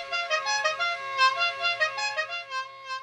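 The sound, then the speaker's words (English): A fancy custom horn on a customized tailgate bus honks in one long, loud, brassy blast, its layered tones wavering and pulsing slightly in pitch for about three seconds with no voices. “Other tailgate bus owners customize their rides to their liking inside and out, with vinyl-wrapped photos, enhanced heating and air, hanging memorabilia, satellite TV hookups, even some fancy horns.”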